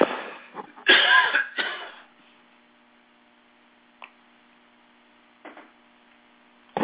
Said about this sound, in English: I'm going to cough again. Hold on.